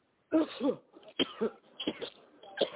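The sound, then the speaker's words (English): A run of several forceful coughs and hacking, throat-clearing bursts in quick succession, fairly loud, with short gaps between them and no talking. The coughing is done on command during a deliverance prayer, coughing it out in the name of Jesus. “Now take a deep breath and cough it all out.”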